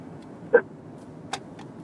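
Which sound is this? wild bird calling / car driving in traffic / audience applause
car driving in traffic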